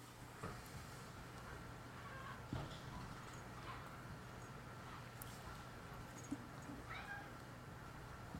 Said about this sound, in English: Kitty.